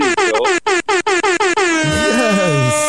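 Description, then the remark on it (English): A loud air horn blares in a rapid series of short, stuttering blasts, then holds into one long sustained blare that wavers and turns noisy toward the end. “Hold on, let me turn the volume down before I get this air horn on because I know it's going to bust my blood clot air gun.”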